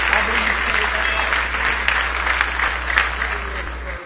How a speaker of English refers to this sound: Somebody say praise the Lord. Give him another big hand clap of praise tonight.